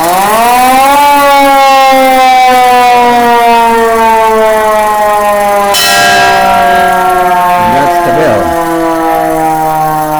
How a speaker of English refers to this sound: The fire chief rides up there and rings that bell while somebody also cranked this siren. If you'd like to hear the siren.